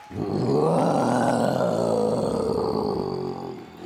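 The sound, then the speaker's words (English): A Tyrannosaurus rex roar given as its turn in a roaring contest: one long, deep, rumbling bellow that swells quickly, holds loud for about three seconds, then tapers off, with no talking over it. “The Tyrannosaurus Rex has one of the loudest and longest roars around.”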